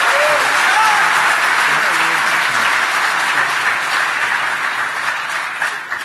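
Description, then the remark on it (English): Sustained audience applause for a first-time speaker and a first-time attendee, a dense wash of many hands clapping at a steady loudness for several seconds before tapering slightly at the end, with faint voices mixed in. “How about a round of applause for our first-time speaker and for our first-time attendee?”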